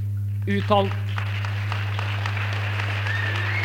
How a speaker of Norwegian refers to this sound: Dere kan godt vente med applausen til slutten av innlegget.